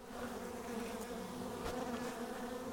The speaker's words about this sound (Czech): Slyšíte ten zvláštní bzukot? Jo. Dneska jsou snubní lety, lítá hodně trubců ven. Ty mají rádi teploučko. Bzučej trošku jinak.